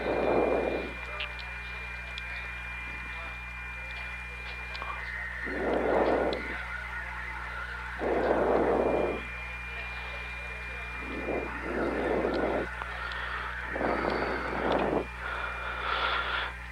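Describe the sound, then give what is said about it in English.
A hovering recovery helicopter, with the first astronaut aboard and its line going down for the second astronaut, gives off a steady, low mechanical drone that holds throughout, broken by several short, louder bursts of noise that swell and fade every couple of seconds. “And we are advised that the first astronaut is in the helicopter.”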